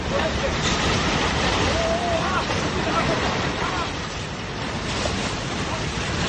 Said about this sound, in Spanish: Es el momento en el que los habitantes de la ciudad de Atami ven cómo desde las montañas baja una enorme ola de lodo y agua imparable. Ha arrasado con casas, coches y todo lo que ha pillado en su camino.